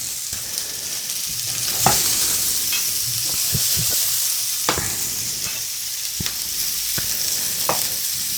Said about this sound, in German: Ja, das ist so, wie ich mir das gedacht habe. Das mit den Anbraten der Mettenden, das habe ich noch nie so gemacht, aber das gefällt mir sehr gut.